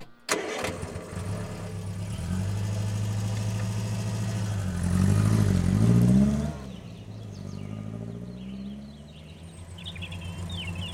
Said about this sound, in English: Take my car and go after the truck, Ted, says Mrs. Boot. They jump in the car and drive off.